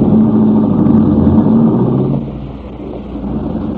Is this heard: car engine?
yes